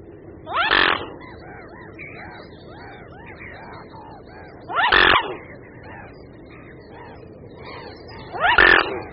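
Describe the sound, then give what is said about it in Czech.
Mute swan calls: three loud, harsh, rasping cries spaced roughly four seconds apart, standing out over a steady background of softer chattering bird calls. “Ve skutečnosti se ozývá různými nepříliš libozvučnými zvuky, z nichž jeden právě posloucháme.”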